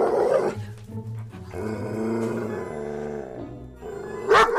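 Seu João's dog, which always tries to bite the mail carrier, growls low and steadily for a few seconds, with a sharp bark bursting out at the start and again at the end, fairly loud, with no talking.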